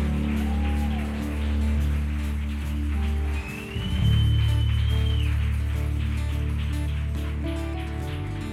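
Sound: audience applause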